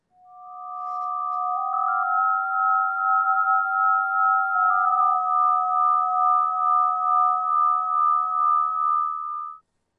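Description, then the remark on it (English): Steady electronic sine tones sonifying a U velocity value hold for about ten seconds, two pitches layered and shifting subtly in steps, with a gentle pulsing wobble in loudness and no voices. “The U velocity is a series of slowly evolving tones.”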